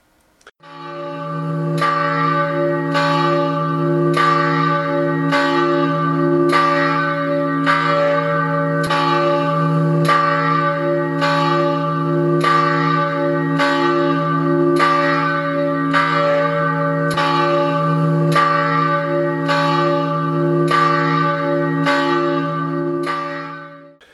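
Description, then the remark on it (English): A church bell rings steadily during a Sunday of Easter church service on May 1, 2022, with regular strikes about every 1.3 seconds over a sustained, humming resonance. The tolling is loud, with no voices, running for roughly twenty seconds. “Let's pause for the ringing of the bell.”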